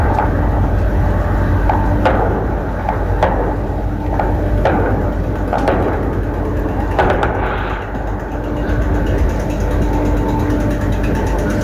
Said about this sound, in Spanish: Usted escucha disparos, en este caso, es digamos lo que nos están señalando, esto es el Cementerio General, es los patios de tierra, particulares los patios de tierra que están contiguos al Cementerio General.